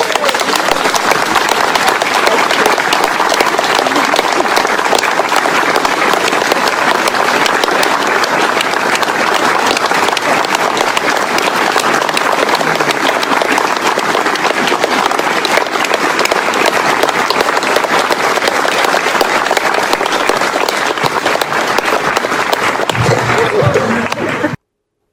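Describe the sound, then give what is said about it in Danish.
Sustained applause from a large audience at a Constitution Day meeting in Vartov, Denmark, on 5 June 2021, greeting a prize recipient; a dense, steady wash of clapping that stays loud and even for about twenty-five seconds before cutting off abruptly. “Hun er helt fantastisk, og hun hedder Annika Aakjær, og I skal klappe den heroppe.”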